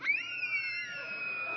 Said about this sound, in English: It's okay. You can scream. Go ahead and scream.